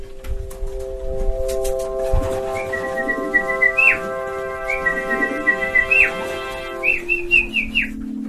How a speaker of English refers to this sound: shouting and whistling to keep them airborne, because that's their training. And these guys around the neighborhood would see me sitting on the roof with my flag, and that's calling these birds.